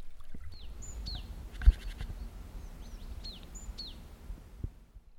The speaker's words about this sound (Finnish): Ja mettässäkin on jotenkin ihana hiljasta. On vain muutama tintti, eli tuommoinen tiainen lintu, joka laulaa. Mutta sekin hiljenee, kun tulee pimiä.